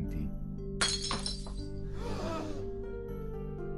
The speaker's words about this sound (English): Holding the cup of wine that they are to present to their abbot, they await his blessing. Benedict then blesses the cup, and it shatters.